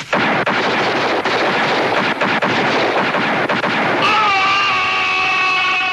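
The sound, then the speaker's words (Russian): Loud revolver gunfire from a shootout with bandits in the western Butch Cassidy and the Sundance Kid cracks repeatedly through a dense, roaring wash of noise for several seconds, then gives way to a sustained, bright ringing tone with layered harmonics. “Герои скорбно созерцают дело своих дымящихся револьверов.”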